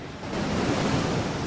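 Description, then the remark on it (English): Ocean waves roll onto the shore of a wild coast in a steady, broad wash of turbulent white-water surf, fairly loud and continuous with some wind rumble, and no voices. “Footage of waves rolling in.”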